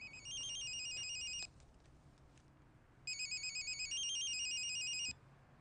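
A telephone rings twice, each ring a bright, rapidly warbling electronic trill lasting over a second, separated by a short pause. The ringing is clear, with no voices.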